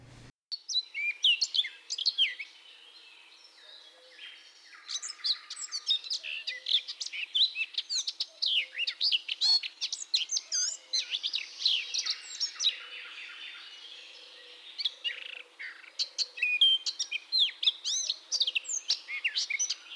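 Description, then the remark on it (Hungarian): A male bird with a black cap, singing at the nests he builds, gives a quiet, rapid, rambling so-called bush song of high twittering and chirping notes that includes mimicry, varied phrases running almost continuously with brief pauses, no voices present. “Ilyenkor egy halkabb, gyorsabb, utánzásokat is tartalmazó, úgynevezett bokoréneket hallat.”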